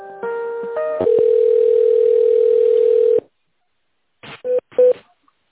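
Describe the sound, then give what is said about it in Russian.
Telephone call-transfer tones: a quick run of stepped dialing beeps, then a long steady mid-pitched dial tone for about two seconds, followed by silence and a few short clicks and tone blips. “Переключаю. Ага, будьте добры.”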